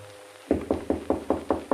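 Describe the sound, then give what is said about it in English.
Rapid, steady knocking on a door at 3 o'clock: about seven firm raps, evenly spaced, starting after a brief quiet moment, with no voices. “And then, at 3 o'clock, a knock on my door.”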